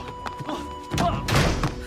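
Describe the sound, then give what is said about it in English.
A door is shut with a heavy, dull thump after a few light knocks and scuffs, as a woman shoves a man out and shuts it, followed by a brief rattling rumble as it settles. “She swats him toward the door, then shoves him out and shuts it.”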